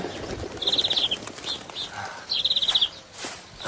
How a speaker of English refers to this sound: to feed the birds that came flocking to our door. Wrens, finches, bluetits, wagtails.